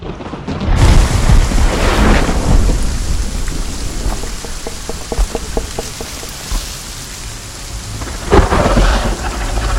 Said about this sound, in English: As they sleep, spattering rain and flashing lightning leave eerie impressions in the darkness both inside and outside the dwelling.